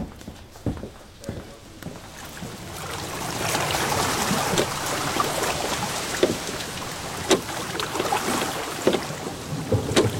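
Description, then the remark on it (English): A small boat makes a short journey across the water toward Plainpalais as a storm approaches, with a steady wash of lapping and splashing and sharp wooden knocks at irregular intervals, moderately loud. “During the short journey across the water, I saw the lightning playing on the summit of Mont Blanc in the most beautiful figures.”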